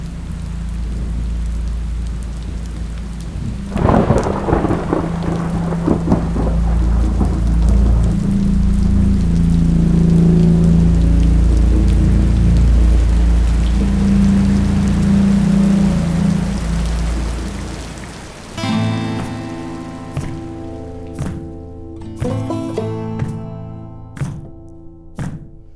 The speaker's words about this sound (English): Until one day, the rain began.